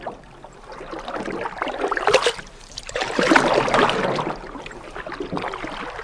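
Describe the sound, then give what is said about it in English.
Paddles dip and pull through the water as a canoe is rowed in a steady, unhurried rhythm, with splashing swells and gentle drips, and no voices. “The answer says the Sound Hound is the sound of rowing a canoe.”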